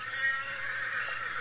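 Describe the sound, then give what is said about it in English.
A faint, distant whinny from a horse that is not one of the listeners' own horses, far off, carries over a steady background hiss, a thin drawn-out call with no voices present. “It's not one of our horses.”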